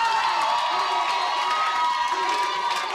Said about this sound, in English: People are shouting Pete for Prez. They're obviously chuffed.